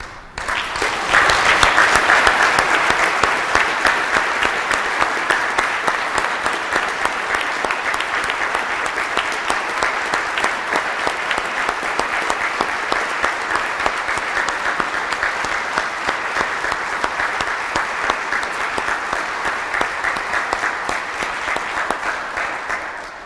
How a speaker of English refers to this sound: And I didn't even ask people to clap. We can't help ourselves because we thank you. We thank you for the freedom we enjoy, and we do enjoy the freedom we have.